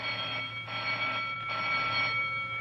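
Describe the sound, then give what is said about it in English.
A bell, rung to wake a justice, rings with a bright, high, metallic tone, swelling in two bursts over a steady, buzzing ring that never fully stops. No one speaks. “Oh, say, will you please ring the bell and stop wasting my time?”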